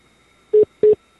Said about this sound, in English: I think we've lost the caller. I think we lost. I heard like a little beep.